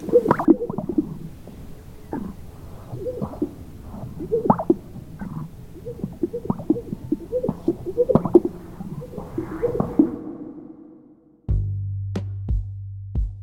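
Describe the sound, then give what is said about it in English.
A male grouse's courtship display call before dawn, as males puff out their chests and strut around to catch the females' eye: a long run of low, gurgling pops and bubbling notes repeating irregularly for about ten seconds, followed by a steady low humming drone. “And this is what their pickup line sounds like.”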